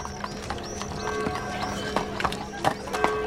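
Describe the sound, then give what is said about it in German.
Hooves of a horse-drawn carriage clip-clop in a steady, uneven rhythm, sharp knocks over a rolling, rattling wheel noise, with a faint whinny-like tone running underneath. “Heute hätte das Rätseltaxi natürlich eigentlich ein Auto sein müssen, ist aber, man hört es schon, dann doch ein Kutschwagen geworden.”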